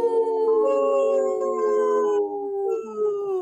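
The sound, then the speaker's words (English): Several people, including members of the park board, howl together like wolves, long overlapping wavering tones that rise and slowly fall, loud, sustained through the whole stretch with no talking. “Hey, the park board did have no problem joining in on the howl.”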